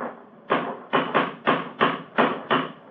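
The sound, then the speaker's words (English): A cane strikes a stone parapet about seven times in quick, uneven succession, each knock sharp, with nobody talking. “It's a hard knock.”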